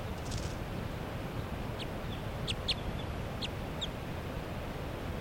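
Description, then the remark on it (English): A light-colored wild bird, perched next to a cage, gives a short run of thin, high chirps, calling in response to another bird: about six quick notes spaced irregularly, heard over a steady low rumble of background noise. “It's calling in response to bird 3 at 7.”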